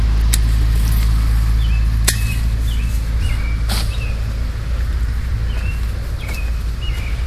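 Steady low rumble of cars driving past in front of a house, a continuous traffic hum with no clear gaps, while faint bird chirps come through now and then. No one speaks.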